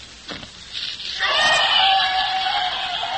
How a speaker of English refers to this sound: You will hear them scream.